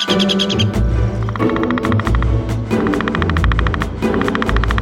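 Rapid bursts of woodpecker drumming, quick hard taps in repeated rolls, set against a full musical backing with steady bass throughout.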